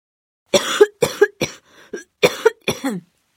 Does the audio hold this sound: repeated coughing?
yes